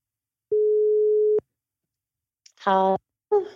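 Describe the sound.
A phone call placed from a studio to a friend on parental leave: a single steady phone ringing tone sounds clearly for about a second, then silence before a voice picks up and speaks briefly.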